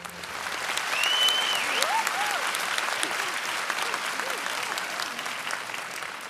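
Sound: applause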